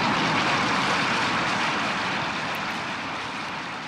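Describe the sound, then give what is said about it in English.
A loud, steady roar of Air Force One, the American president's jet, arriving on the airfield at Dallas Love Field at 11:37, a broad rushing engine noise that fades slightly as it continues, with no voices. “Dann um 11.37 Uhr trifft Air Force One, der Jet des amerikanischen Präsidenten, auf dem Rollfeld von Dallas Love Field ein.”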